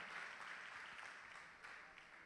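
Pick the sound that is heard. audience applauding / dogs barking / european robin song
audience applauding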